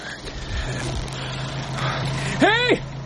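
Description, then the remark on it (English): A lorry engine drones steadily, a low, even hum over broad rumbling noise that swells slightly, and a brief loud call of a voice rises and falls near the end. The lorry is carrying fire volunteers and engineers coming from the burning hospital at Altgarten. “It was more than an hour later that he heard the lorry.”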